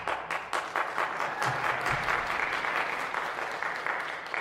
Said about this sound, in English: Oh, not only does it make Bob start involuntarily clapping, but this starts the audience applause as well for, like, Fred's solo.